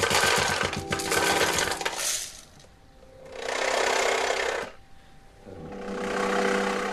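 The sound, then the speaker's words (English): Coins rattle and buzz against each other in three loud bursts, vibrating percussively as infrasonic pulses too low to be heard are sent through them; a dense metallic jangling shimmer that swells, stops, and returns, with a faint low hum between bursts and no talking. “bones, coins, and these materials would vibrate percussively when infrasonic pulses, vibrations that are too low in frequency to be heard by the human ear, when these infrasonic pulses were sent through them, the materials would vibrate percussively.”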